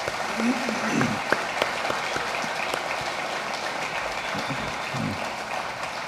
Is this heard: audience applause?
yes